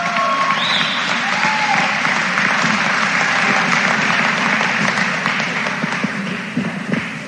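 Sustained audience applause for a high school senior at a senior recognition, a dense wash of clapping that holds steady at a loud level for about seven seconds before easing slightly at the end, with a few whoops mixed in.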